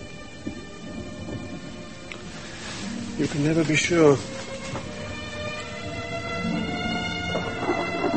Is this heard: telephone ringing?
no